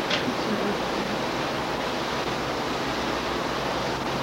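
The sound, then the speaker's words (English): A steady, unbroken whoosh of an electric fan running, an even airy hiss that holds the same level throughout with no voices over it. “Could we turn that fan, please? It's giving me a very dry mouth in my water.”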